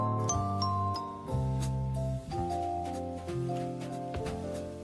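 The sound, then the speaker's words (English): A handbell choir plays a sustained, ringing passage, many bells struck together by a group of players in steady chords that overlap and shimmer, moderately loud, with no voices. “such a beautiful sound, isn't it? And each bell and each player is important to the music.”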